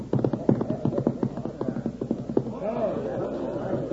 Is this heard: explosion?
no